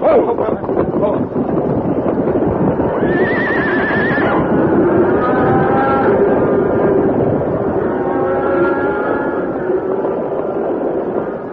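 A dense, continuous rumble of many cattle hooves thundering past in a stampede as the herd breaks through a fence and sweeps past the Lone Ranger and Tonto on horseback, with horses whinnying loudly several times over the steady roar.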